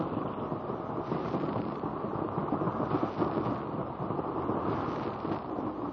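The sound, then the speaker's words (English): A steady, dense roar of rushing water, heavy in the low end and unbroken for the whole stretch, rumbling like thunder as it echoes off the rocky walls of a dark tunnel that a boat shoots through. No voices. “The rushing of the waters echoes and reverberates from the rocky walls with a noise like thunder.”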